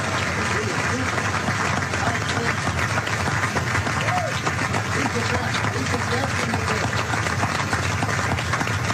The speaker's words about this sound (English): I really enjoy this man. I think we all should give him a great round of applause.